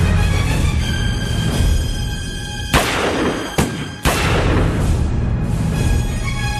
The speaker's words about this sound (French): Voilà, deux pages et déjà quelques coups de feu, déjà, donc on est tout de suite dans l'action.